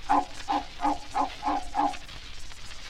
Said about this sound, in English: The dogs in the alley, they go bow, bow, bow.